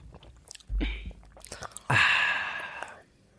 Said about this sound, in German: Ich mache jetzt ASMR Wasser trinken.